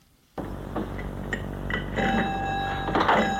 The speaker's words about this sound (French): Ils entendent la porte du magasin s'ouvrir.